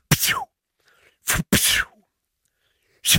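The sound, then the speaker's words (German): A voice imitates whip cracks: four sharp, loud bursts, each a quick hissing snap with a falling swish, spaced irregularly with brief silences between. “…, zum Warmwerden, könntest du ein paar Peitschenhiebe ja, natürlich. Einsprechen?”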